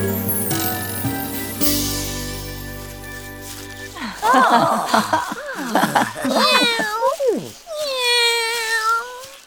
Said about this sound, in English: Look! The cat! The cat!